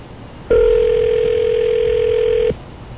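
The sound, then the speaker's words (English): A single steady telephone ringing tone sounds loudly for about two seconds, a flat electronic hum heard on an outgoing call, with quiet background before and after. “For God's sakes, Courtney, answer the phone.”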